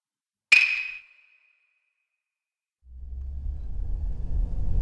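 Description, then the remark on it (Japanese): A single bright chime rings out and fades, then after a pause a steady, deep engine rumble from inside a car sets in and continues to the end, with no talking. “この会話は車の中で行われています。”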